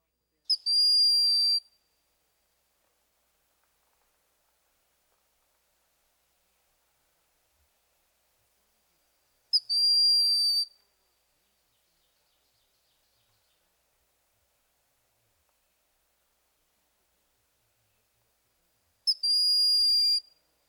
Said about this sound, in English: The call of the broad-winged hawk is a high-pitched, thin whistle.